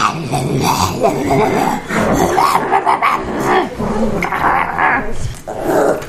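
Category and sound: animal, dog growling and barking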